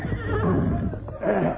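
horse whinnying

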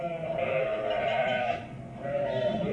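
sheep bleating

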